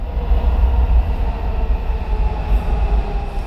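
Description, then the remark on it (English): A Washington, D.C. Metro subway train rumbles steadily along metro rail, a loud, continuous low roar with a constant mechanical hum and no voices. “Service is back to normal on the Washington, D.C. Metro now, but the entire rail system shut down Wednesday for emergency inspections and repairs of electrical power cables after one had caught fire on Monday.”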